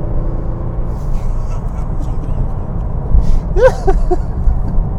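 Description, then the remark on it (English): Steady, heavy low rumble of a car in third gear at about 3,400 RPM and 51 miles an hour, rolling over a rough, damp, potholed dirt road through a construction zone, with a few jolts and a brief squeaky chirp near the end. “Roads are actually just in between wet and in between dry. Lots of potholes to avoid.”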